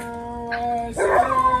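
Dogs next to a park howl in a steady, drawn-out tone that suddenly swells into louder, rougher, agitated yowling near the end as they get upset at a man screaming nearby, with no talking.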